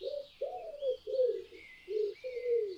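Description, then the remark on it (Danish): A dove coos five times in a steady, rolling rhythm, each low hoot clear, while thin birdsong twitters faintly in the background. “Kan du sige som en due? Måske har du hørt en due kurre før.”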